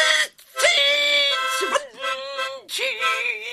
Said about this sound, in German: Sonst nehme ich das weg, deine Mundharmonika. Und zwar ein für alle Mal.